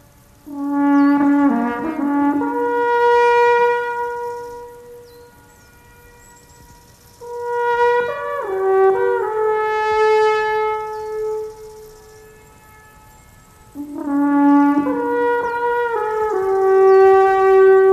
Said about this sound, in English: Let's listen now to an improvised Alphorn solo, again performed by Walter Chapuis, but this time on a mountain pasture with echoing sounds in the distance.